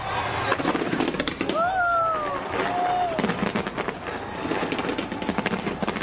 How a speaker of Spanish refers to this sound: Un millón de personas acaban de dar la bienvenida al año nuevo en el espectáculo de fuegos artificiales para iluminar la ópera de Sydney.